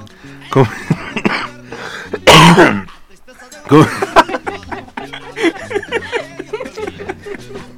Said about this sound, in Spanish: Y tosiendo.